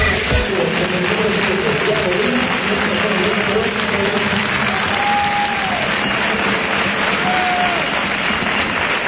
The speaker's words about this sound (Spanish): Los aplausos de la afición. Recreativista Diego Díaz.